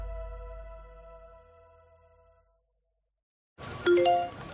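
A single notification chime from a Securitas Direct home security app, alerting that a person was detected in the garden, rings out clearly, its bright layered tones fading over about two seconds, followed by a moment of silence and then a sudden busier burst of sound.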